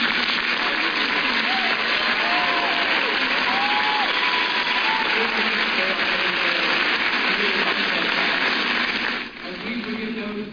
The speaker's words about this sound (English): Yeah, we played you 20 seconds of that, Megan, but the cheers went on, right? You could hear him going on, and he kept trying to get through the prayer. And at one point, he said, look, I couldn't even hear myself talk.